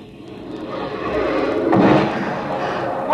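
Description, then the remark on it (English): Fireworks boom, a dull rumbling burst swelling up around the middle and trailing off into a hissing, crackling wash, with no voices. “Like sitting on the grass and watching the fireworks.”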